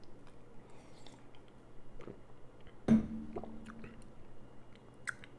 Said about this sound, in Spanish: Si nos ponemos a pensar, ¿qué crees que tengan en común estas personas mientras yo le doy un trago a mi café?